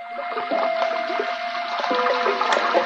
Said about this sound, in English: That's the way it sounded when it rained, because the room was just below gutter level, and the rainwater rushed by the room's only window.